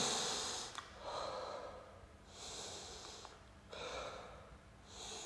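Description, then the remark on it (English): Heavy, deep breaths after exercise during a punching workout, alternating airy inhales and exhales in a slow, steady rhythm of roughly four or five cycles, with no talking. “Good deep breaths of oxygen. Stabilize the breathing.”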